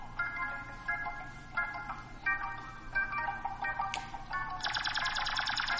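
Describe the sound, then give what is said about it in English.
Background music plays on its own: a tinny, bright electronic melody of repeated high notes in a steady rhythm, growing denser and buzzier toward the end, with no one talking. “Do y'all hear the music that's playing?”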